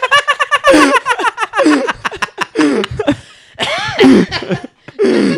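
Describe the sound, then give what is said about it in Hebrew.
Loud laughter pours out in rapid bursts and gasping breaths, growing so intense that it breaks into rough, coughing fits between peals, with more than one voice joining in. “וואו, צחוק שאתה מגיע לרמה שאתה משתעל, זה כאילו שלב אחד לפני כואב לי בלסת.”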